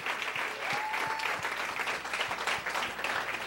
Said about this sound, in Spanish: Un aplauso a él.